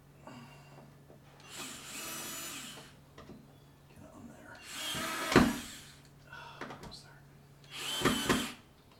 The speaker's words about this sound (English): Yeah, see, as soon as it tightens down, yes, it like sucks. The drill wigs out. Almost got it.